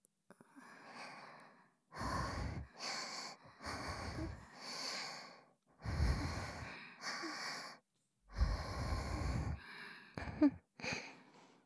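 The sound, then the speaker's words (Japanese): Heavy, ragged panting, a run of about a dozen loud, breathy inhales and exhales in an uneven rhythm, some with a faint wheezing edge, with no talking. “でもそれなら、もっとはぁはぁしていいってことですよね。”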